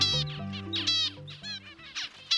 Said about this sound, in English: For birds, learning starts early. Birds listen to their parents' songs and calls from inside the egg.